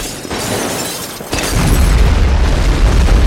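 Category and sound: sound effect, explosion blast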